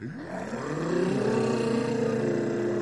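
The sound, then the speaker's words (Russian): Several voices hum a steady, droning tone in imitation of jet airplanes, answering a call on a record to hum like jet planes, the pitch sliding upward at the start and then holding loud and even for a few seconds. “А гудеть вы умеете, как реактивные самолеты?”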